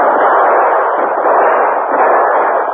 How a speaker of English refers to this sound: As the engine came to a stop near the end of the track, the outlaws leaped from the cab with guns in hand and opened fire.